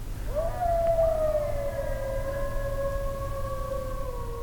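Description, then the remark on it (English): A chorus of eastern coyotes howls in a long, drawn-out, steady tone that rises at the start and holds for several seconds over a low rumbling background, heard at the end of a hike. No one speaks. “These are coyotes, also known as the song dogs.”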